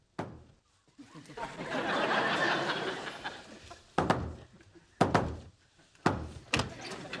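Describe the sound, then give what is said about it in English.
A single knock, then a swell of crowd noise, followed by a patterned series of sharp knocks on a door, spaced in an uneven rhythm: a secret knock used as a nonverbal signal to verify the identity of co-conspirators. “That's not the secret knock. This is the secret knock.”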